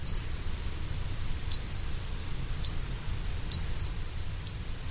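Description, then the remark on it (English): A male Costa's hummingbird, weighing 3.6 grams, repeats a high, thin whistled song, each note starting with a sharp spike and trailing off. Five evenly spaced notes ring out over a low, steady rumble of background noise. “A male Costa's hummingbird weighs 3.6 grams, which, given its voice, is maybe just as well.”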